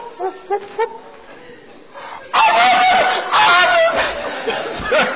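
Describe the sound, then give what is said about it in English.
A person imitates a rooster's crow: a few short vocal bursts, then a loud, drawn-out warbling cock-a-doodle-doo that fills the last three seconds, strained. “Nope, not that one, rooster.”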